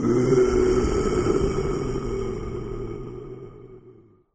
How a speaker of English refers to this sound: Mowgli, Bagheera the panther, and Baloo the bear are having a picnic near the river. A big tiger growls.